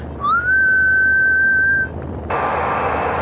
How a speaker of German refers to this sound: Erbitte Peilung von 3105 Kilohertz zur vollen Stunde. Pfeife dann ins Mikro, 200 Meilen entfernt. Pfeife jetzt.